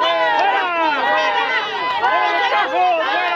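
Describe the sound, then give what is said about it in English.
A large crowd of employees, led by company managers, in a factory parking lot shouts and jeers at defeated unionists after a union vote, many overlapping raised voices forming a continuous, rowdy din with no single speaker standing out. “In the parking lot, a large crowd of employees, led by company managers, celebrated by jeering the defeated unionists.”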